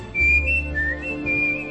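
A person whistles a short, sustained melody, the clear tone gliding between pitches over a low, steady instrumental backing.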